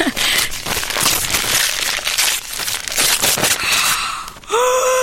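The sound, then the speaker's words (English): Snowman-patterned Christmas wrapping paper crinkles and tears continuously for several seconds as a gift, a fitness tracker, is unwrapped: dense crackly rustling with bursts of louder ripping, then a brief rising tonal sound at the end. “Oh, nice paper, snowman. Oh, you've wrapped it well.”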